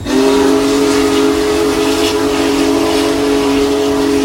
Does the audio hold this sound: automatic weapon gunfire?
no